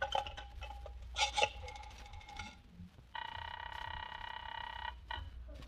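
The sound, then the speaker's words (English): A telephone is picked up and handled with clicks and rattles to call the operator, followed by a steady electronic tone lasting a couple of seconds, then a brief repeat. Moderately loud, with no talking. “Hand me that phone.”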